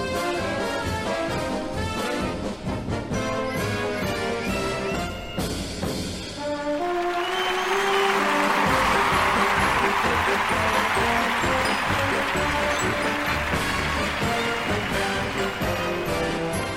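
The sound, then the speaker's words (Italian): The Cleveland Browns football fight song "Hi-ho for Cleveland" played by a brassy band for about six seconds, then a swell of loud, steady applause that carries on to the end, with faint music still underneath. “Adesso si sente 20 secondi di fight song, anzi di hi-ho for Cleveland, e poi passiamo a tutt'altro.”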